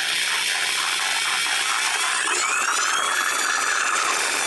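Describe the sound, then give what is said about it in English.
An electric saw of the kind used to cut metal, wood, bone and tissue is switched on and runs steadily for the whole stretch, a loud, bright, high-pitched whine with a faint shifting tone partway through and no voices. “Could you turn that on one more time”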